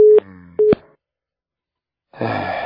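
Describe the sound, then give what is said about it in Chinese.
Two short electronic beeps of a telephone busy tone after a call hangs up sound clear, separated by a brief gap, followed by silence before a voice begins speaking. “电话挂了”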